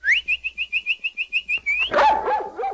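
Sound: dog barking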